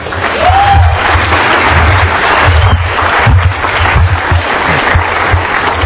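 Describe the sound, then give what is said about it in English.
A convention audience applauds itself loudly and steadily for about six seconds at the tenth convention, a dense wash of clapping hands with a low rumble underneath, with no voices standing out. “So give yourselves a round of applause, because this is the best year we've had in 10 years.”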